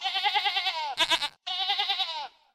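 A sheep bleats twice, each call loud and quavering, with a brief pause between them; the second bleat trails off, and no one speaks.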